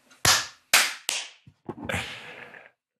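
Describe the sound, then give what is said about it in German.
Hosts clap their hands together on a count of three: three sharp, loud hand claps land in quick succession, followed by a ragged flurry of softer, overlapping claps that fall out of sync. No one speaks. “Die Klatscher werden immer asynchroner oder der Ping wird immer größer.”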